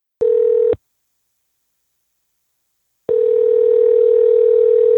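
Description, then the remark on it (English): A steady, humming telephone dial tone sounds briefly as a phone call is placed, cuts off for a couple of seconds, then returns and holds unbroken at the same pitch. No one speaks. “Let's give him a buzz.”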